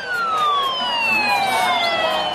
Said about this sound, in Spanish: Sirenas de policía, tumulto de aficionados, gritos de seguidores, simplemente para ver a Leo Messi entrenar con Argentina.